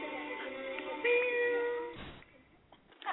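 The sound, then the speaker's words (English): A single drawn-out cat meow, fairly loud, lasting about two seconds with a slight rise in pitch, followed by a brief rustling burst and near quiet. “Here, kitty, kitty, kitty.”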